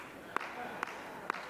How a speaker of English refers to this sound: One lady's clapping.